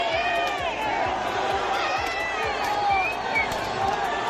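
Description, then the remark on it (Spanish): A large protest crowd of more than 130,000 people in Valencia, demonstrating in the afternoon against the handling of the DANA, chants and shouts together in a dense, steady roar of many voices, with a regular low thumping beat running underneath throughout. “Más de 130.000 personas, según la delegación del Gobierno, se han manifestado esta tarde en Valencia para protestar por la gestión de la DANA.”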